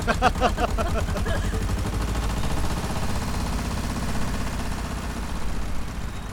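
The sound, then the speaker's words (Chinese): A tractor carrying passengers in a poor mountain area chugs loudly and steadily as it speeds up, a rapid rhythmic low putter running without pause for the whole stretch, with a brief tonal sound over it at the start. “这拖拉机上不去，剩下的路啊，只能您自己走。”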